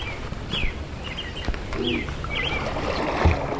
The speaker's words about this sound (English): It's just getting away from the cell phone and the television, even music and electronic noise, and it's just hearing nature. Just listen to the birds now. It's great.